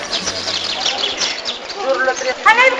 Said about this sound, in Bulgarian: Тук обаянието идва от маслинена горичка и пътче, което води до девствения бряг на Егейско море. Птички и глъч на монахини допълват живописния свят около теб.